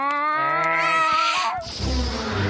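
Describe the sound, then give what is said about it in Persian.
A cat lets out one long, drawn-out meow, loud and wavering, then it breaks off into a burst of scuffling, hissy noise. “نه فکر کردم گفتین قراره فقط یه گربه با خودتون بیارم.”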